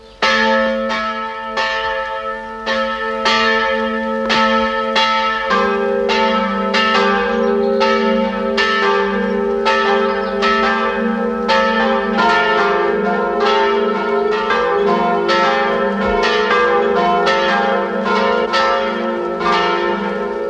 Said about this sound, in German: Es ist 12 Uhr. Es läuten die Glocken der Pfarrkirche Werfenweng, Land Salzburg.